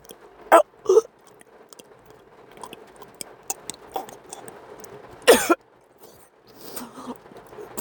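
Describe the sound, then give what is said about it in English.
A person gags abruptly inside a car: two quick heaves near the start and a longer, harsher one later, with quiet wet mouth and throat noises in between. “You're making me gag.”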